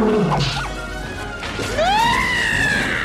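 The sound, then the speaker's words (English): A sharp wooden crack as Rafiki's stick strikes a hyena on the head, set amid a loud, busy fight with hyenas, with rising yelping cries and dense background noise throughout. “Rafiki's stick cracks the hyena on the head.”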